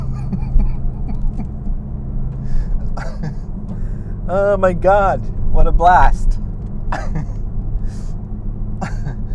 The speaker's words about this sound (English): Unbelievable how fast you can take corners in this car. I just can't get over it.